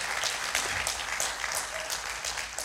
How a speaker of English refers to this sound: Now, It's worth giving, but if you're going to clap on it, don't pity pat him. Give him a hand, because God loved us that much.